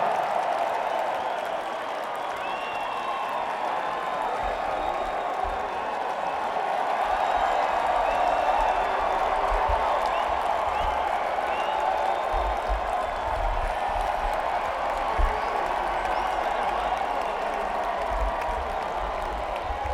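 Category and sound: crowd, crowd applauding and cheering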